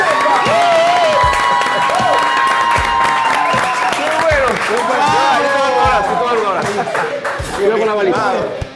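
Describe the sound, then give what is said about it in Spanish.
A large audience claps and cheers loudly and continuously for several seconds to welcome the Venezuelan creators of the YouTube show Free Cover, with many voices whooping and shouting over dense, sustained applause. “Señoras y señores en el mundo entero, recibamos con un fuerte aplauso a los creadores, la esencia de la vida misma, del Free Cover,”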